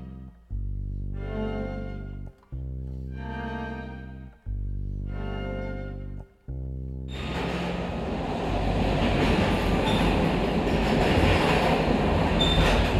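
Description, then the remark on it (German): Three long, deep horn blasts with short pauses between them, then a steady, loud rumble and rattle of a train rolling along the rails that builds slightly and carries on without any voices. “Insgesamt dauerte die Zugfahrt 3 Tage und 4 Nächte.”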